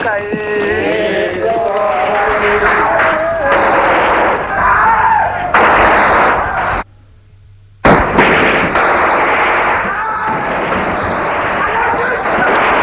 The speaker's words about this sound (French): Il tire dans la foule